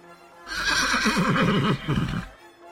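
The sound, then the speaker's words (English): A horse whinnies once, loud, its shrill, quavering cry wavering up and down for almost two seconds before cutting off into silence. “Look at me. I'm on a horse.”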